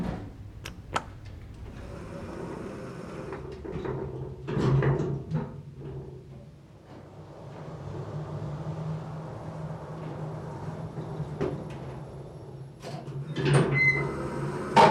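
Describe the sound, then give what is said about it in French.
A low mechanical hum and rumble of an elevator in motion, taking an employee to the 12th basement level, punctuated by clicks and a sliding whoosh as the doors glide open onto a small hall near the end. No one speaks. “Lorsque les portes s'ouvrent, je découvre un petit hall distribuant trois espaces.”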